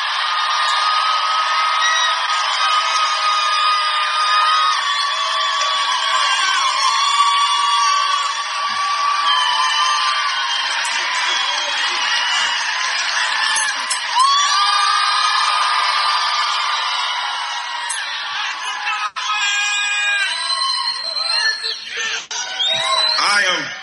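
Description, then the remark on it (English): A large crowd cheers and applauds for about twenty-four seconds as a rapper is introduced, a loud, steady roar of clapping with whoops and high shouts rising over it, dipping only slightly near the end. “So please, give a warm round of applause to …, ladies and gentlemen.”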